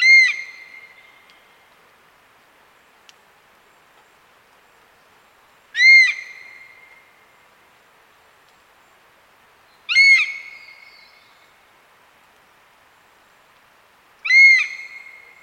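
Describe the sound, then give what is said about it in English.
A honey buzzard utters its typical alarm call at the recordist four times, each a loud, high, harmonic whistling cry with a fading tail, separated by gaps of several seconds of quiet. “uttering this typical alarm call to me”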